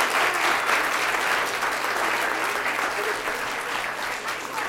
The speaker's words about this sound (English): So let's have another round of applause for these ladies and gentlemen.